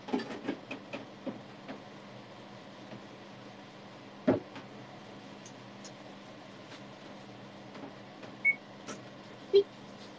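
A kitchen exhaust fan runs while a frying pan heats and a cutting board and knife are washed, with a steady, whooshing drone and a low hum underneath, broken by a few faint clicks and clatters and one sharp knock midway.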